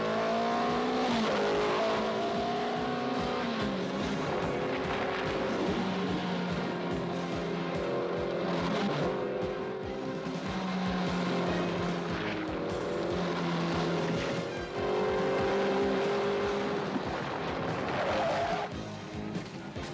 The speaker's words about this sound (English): Welcome to the biggest tractor pull in the world, starring Grave Roller.